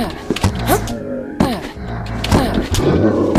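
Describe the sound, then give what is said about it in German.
A bear roars repeatedly in a video game, loud, growling bursts recurring every second or so, mixed with thuds and game noise, and no speech. “Hallo, du Teddy! Bär!”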